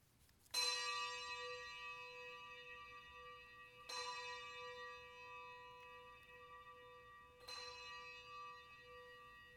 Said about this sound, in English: Let us ring the bells of grief.